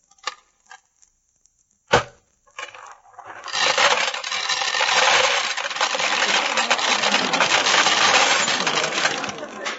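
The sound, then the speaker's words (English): Pennies drop into a peanut vending machine: a few light clicks and one sharp metallic clank, then a long, loud rattling churn as the mechanism runs, with no voices. “Two pennies, two peanuts. This machine must be... Excuse me, bud, can I get at that peanut machine?”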